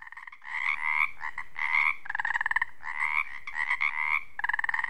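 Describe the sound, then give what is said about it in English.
A chorus of Pacific tree frogs (Pacific chorus frogs) croaks steadily in a springtime wetland at dusk near Ozette Lake on the Olympic Peninsula, Washington State. Overlapping rhythmic ribbits and trills repeat fairly loud, with no voices. “As the daylight fades over this wetland, the Pacific tree frog comes to life.”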